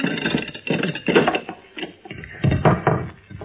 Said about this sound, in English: Open the trap door, Anna.